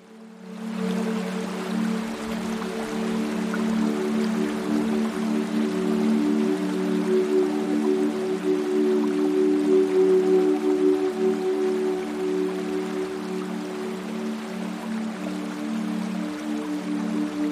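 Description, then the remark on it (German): Steady, continuous flowing river water with a soft splashing wash heard from afar as a small wooden boat drifts along the river, holding an even level throughout, accompanied by a low sustained humming drone underneath. No one speaks. “Da hörst du von weitem ein Plätschern und siehst, wie ein kleines Holzboot auf dem Fluss entlang treibt.”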